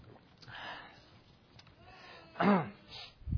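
speaker drinking water

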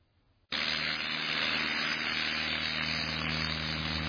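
propeller airplane engine

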